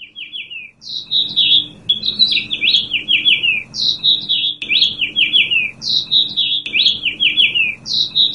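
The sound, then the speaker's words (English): Several house finches nesting at the Ames Pantorium, 410 Douglas in downtown Ames, sing in overlapping, warbling phrases of bright chirps and trills, continuous, with a faint low hum underneath. “And this is our phenology for today, the house finches of the Ames Pantorium.”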